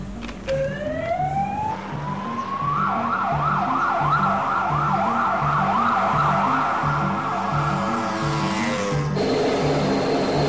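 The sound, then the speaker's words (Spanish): A patrolling police car's siren starts with a rising wail, then switches to a rapid warbling yelp that holds steady and loud over a low, rhythmic engine rumble as the car moves along the streets. “Un coche de policía patrulla por las calles.”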